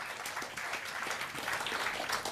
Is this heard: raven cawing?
no